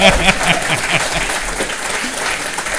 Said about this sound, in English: So you guys can clap, and that'll sound really cool on the podcast. There we go.